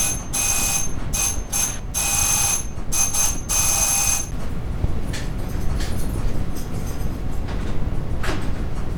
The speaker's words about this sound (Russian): О, тихо, кто-то звонит в дверь. Тихо.